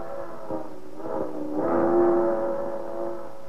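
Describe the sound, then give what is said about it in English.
The locomotive of a night freight train, number 7941, hauling boxcars with a caboose, sounds its whistle, a steady, chord-like tone that swells louder midway and then holds, fading slightly, over a low rumbling background with no voices. “That's the whistle of a night freight, hauling a miscellaneous load of grimy boxcars, with a caboose rattling along at the end of the parade.”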